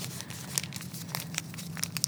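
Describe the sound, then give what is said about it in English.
A normal Tampax Sport tampon wrapper being opened, with soft crinkling and several sharp, bright crackles and tearing snaps spread across about two seconds, fairly quiet and with no voices. “So here's a normal tampon wrapper.”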